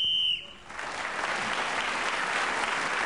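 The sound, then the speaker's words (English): A sharp, steady whistle blast sounds for about half a second, signalling the end of a round in a game, then gives way to loud, sustained applause from a large audience that continues to the end. “Whoever is speaking when the whistle goes gains an extra point.”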